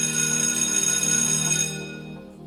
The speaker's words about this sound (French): 17 heures, la sonnerie de la fin de la journée.